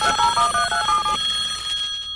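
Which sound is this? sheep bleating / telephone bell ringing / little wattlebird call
telephone bell ringing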